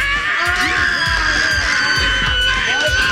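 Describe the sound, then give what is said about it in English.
A crowd of people screams and shrieks excitedly, loud and continuous, with many high voices overlapping into a dense, chaotic roar that never lets up. “So the screaming was a little much.”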